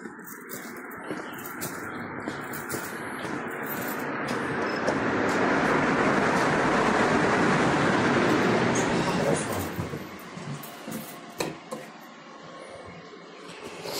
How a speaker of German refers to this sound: Auf zur S-Bahn. So, hier S-Bahn.